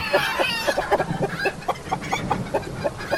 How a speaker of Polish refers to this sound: Czy ktoś wreszcie uciszy tę kurę?